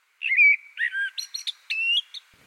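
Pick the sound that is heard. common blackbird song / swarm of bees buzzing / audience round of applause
common blackbird song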